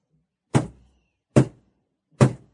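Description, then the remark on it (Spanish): Three heavy, evenly spaced knocks on wood from the stairway rather than the house door, each a solid thud with a short decay, loud against otherwise silent surroundings. “Cielos, que ha sonado en la escalera, no en la puerta de la casa.”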